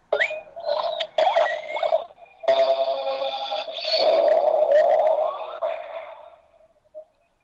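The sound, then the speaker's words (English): A toy's electronic lion roar, triggered by inserting a key into the toy's base and sliding it left, plays through a small speaker: a tinny, buzzing growl in two long bursts, the second louder and sustained, fading out before one short final blip. It repeats every 10 seconds while the key is in. “you're going to hear that lion roar”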